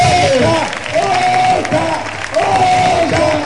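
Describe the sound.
An audience claps steadily and loudly throughout, a dense crackling wash of applause, with voices shouting and cheering over it in rising, drawn-out calls.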